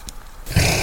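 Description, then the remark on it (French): A reindeer breathing nearby: after a brief quiet moment, a loud, rough, breathy exhale rushes out and continues to the end, with no talk. “Voilà, bah là, je vous fais entendre la respiration d'un renne qui est juste à côté de moi.”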